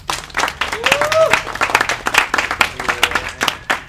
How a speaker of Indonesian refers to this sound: Udah, tepuk tangan dong.